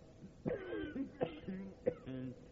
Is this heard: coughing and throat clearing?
yes